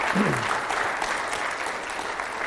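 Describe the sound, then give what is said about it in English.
A church audience claps to the Lord during a morning service in a dense, sustained wash of applause, with many hands overlapping into a continuous roar and no voices standing out. “Clap to the Lord for the power of his word.”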